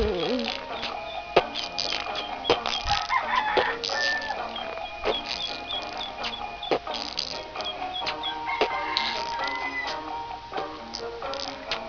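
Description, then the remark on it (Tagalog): A rooster crows amid a busy, cluttered scene, with clucking chickens, sharp clattering knocks, and people talking throughout. “Ma, palit ko manok tag-sinta,”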